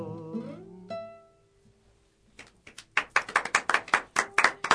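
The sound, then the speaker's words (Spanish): A tune fades out, then a few people in the studio clap their hands in a quick, uneven burst of sharp claps that lasts a couple of seconds. “No podemos pedir mucho, tenemos un reemplazo de operador, los saludos, los aplausos no salen, así que aplaudimos desde aquí adentro.”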